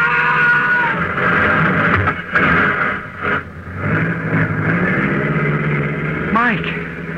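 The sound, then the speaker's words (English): A car engine drones steadily with a low rumbling hum, a rising whine near the end as if revving, while voices shout over the noise. “Stop that car, you!”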